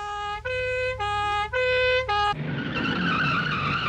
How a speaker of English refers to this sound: A passing fire engine squealed to a halt.